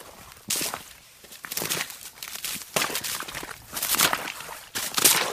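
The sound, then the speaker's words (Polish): Several footsteps in rubber boots crunch and crackle through thin ice over wetland, each step a broad, bright crunch in an uneven walking rhythm, with no talking. “Dzięki kaloszom możemy sobie pozwolić na wdepnięcie tutaj w to mokradło.”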